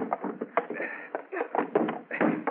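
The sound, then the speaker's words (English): Heavy furniture scrapes and bumps across a floor as a desk is shoved against a door, with several dull knocks and thuds in uneven succession, fairly loud. “help me push the desk against the door.”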